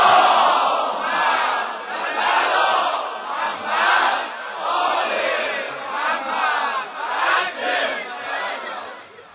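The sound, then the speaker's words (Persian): A large crowd loudly chants the salawat together, many voices merging into a dense roar that swells in rhythmic surges for several seconds. “برات روشن شدن دلام، خوب گریه کردن چشام، یه صلوات بلند بفرست.”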